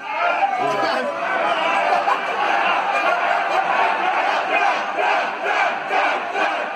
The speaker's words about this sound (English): there was actually a link to a tweet of someone who was at the event who filmed a bit of footage, but we're going to cut in a bit of the audio from that now so we can hear exactly what the WWE fans were shouting.